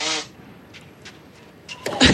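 A loud, honking nose blow in a radio commentary box during the Świątek–Paolini French Open tennis match at Roland Garros, followed by a quiet stretch with faint snuffles, then another harsh, breathy blast of nose blowing at the end.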